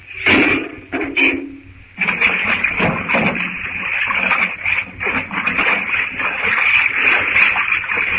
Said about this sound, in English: When the door opened, hang on till the first rush of water is over.